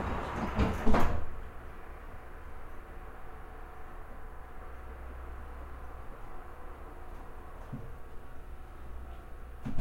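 Train sliding doors close with a brief, loud rushing thud at the start, followed by a steady low hum of the carriage idling for the rest of the time.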